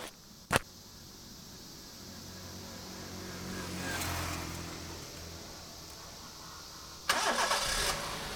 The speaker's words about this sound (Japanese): 宮浜温泉入り口という看板が出ていた。車はその角を曲がって坂道を登っていく。